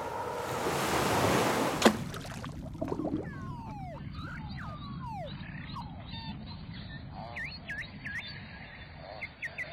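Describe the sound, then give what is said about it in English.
Rushing surface noise on a windy day in the Arctic Ocean gives way, as the mic dips below the waves, to an underwater chorus of beluga whale song: many squeaky whistles, rising and falling chirps and quick clicks overlapping, moderately loud, over a steady low rumble. “Okay, and here's when I traveled all the way north to the Arctic Ocean and heard the sensational song of the beluga whale.”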